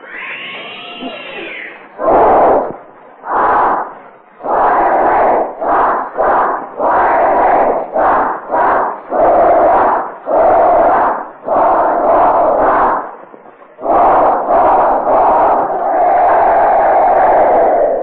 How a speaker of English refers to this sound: boy in the school is gathered here in Davis Auditorium for this special broadcast of Vox Pop. 387 boys ranging in age from 6 to 20. And here's the whole regiment of the Little West Point of the United States opening our show with the skyrocket cheer.